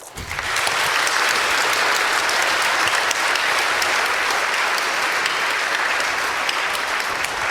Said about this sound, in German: Danke, dass ihr die Veranstaltung hier auf die Beine gestellt habt. Dafür vielleicht auch mal einen Applaus.